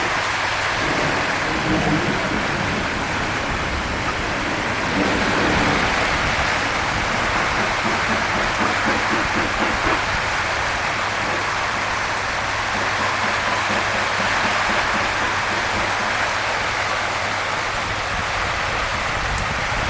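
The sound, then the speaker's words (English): A steady rain shower hisses outside without pause for the whole stretch, falling on a pool cover and heard from an open doorway, dense and even, with a low constant hum and faint indistinct voices underneath early on. “I can hear the rain in the front. Sounds like a shower.”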